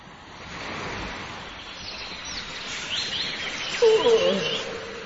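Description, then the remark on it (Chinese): Steady ocean surf washes throughout, with many large and small seabirds calling over the sea, a few cries and chirps rising louder near the end before the waves carry on alone. “海面上有许多大大小小的鸟儿，它们感叹精卫的执着，也叹息着大海的浩瀚和精卫的徒劳。”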